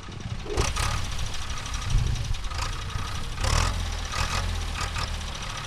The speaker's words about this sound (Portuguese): O som de um trator em Jalukolange, próximo da fronteira do Zimbábue com o Botswana, situado a cerca de 700 km a sul da Harare, preparando o terreno para os agricultores cultivarem.